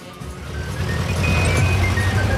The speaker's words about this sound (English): Now, a forklift truck is driving along with the keys from the treasure chest in the ignition. It's carrying a large, bulky item under a cloth.